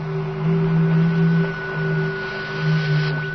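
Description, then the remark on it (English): Radio static hiss over a steady electronic hum, with a low droning tone that swells and fades in slow, uneven pulses. It is continuous and moderately loud, and no one speaks. “We bounce signals off the moon's surface. There's no reason that Venus shouldn't radiate impulses. I don't mean the static.”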